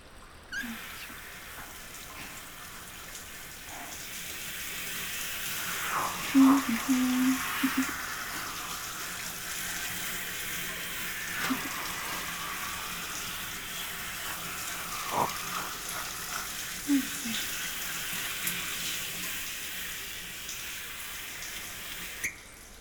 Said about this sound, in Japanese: ああ、それでは最後にシャワーで全体を流しちゃいますね。